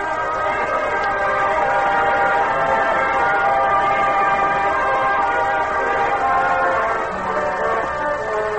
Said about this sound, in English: a special four-car train marked with flags and bunting leaves Washington, D.C. and heads north and east